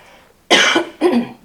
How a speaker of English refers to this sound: You will have to forgive my cough today.